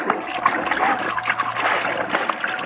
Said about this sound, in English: Better splash some water on my face.